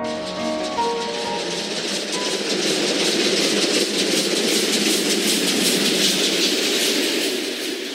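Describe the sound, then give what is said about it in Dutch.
A passenger train traveling toward Budapest past Lake Balaton in Hungary rolls steadily along the rails with a continuous rushing rumble and a faint rhythmic clickety-clack, sustained throughout, with no voices. “Het was de eerste maal dat ik per trein reisde.”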